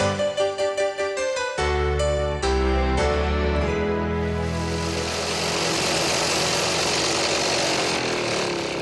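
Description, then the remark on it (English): A lawnmower engine sputters through a few quick pulls, then catches and roars steadily and loudly while mowing a small lawn, its buzzing drone growing rougher as it runs on with no one talking. “Where's the lawnmower?”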